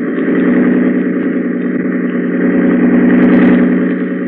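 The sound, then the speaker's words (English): A loud, steady motor roars continuously at high power, a boat engine running near full throttle with a dense droning hum and no voices. “tell Grady to hold tight to the wheel and open the engine up full”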